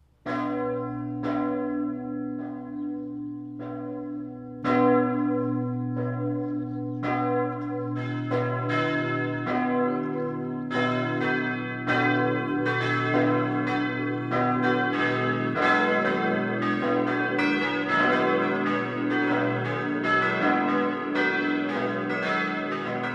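Noon church bells of the parish church St. Peter und Paul in Zimetshausen, Swabia, Germany, ring steadily, several bells overlapping in a full, continuous peal with rich lingering overtones, heard clearly with no voices.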